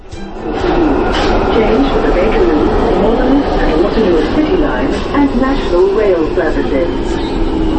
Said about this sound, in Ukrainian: Звуки метро схожі, але не однакові у різних містах. Чимало лондонців скажеться, що їхнє метро надто шумне і тісне. Особливо на найстаріших лініях мережі вік дається в знаки.